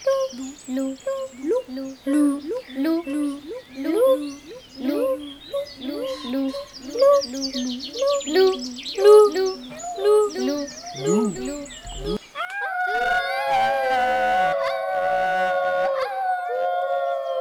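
Forest ambience full of busy, repeating birdsong chirps, giving way after about twelve seconds to long, sustained howl-like tones that hold steady and loud to the end.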